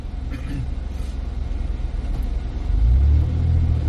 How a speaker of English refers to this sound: Insane. This is Willis, Texas. There's never traffic jams here. You never see anything like this here. Normally, I'm the only vehicle at this intersection.